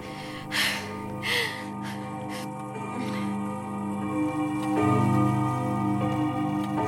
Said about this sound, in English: Oh, I love that clock. Growing up, I'd lay awake at night listening to it ring every 15 minutes, waiting for my dad to come home from work.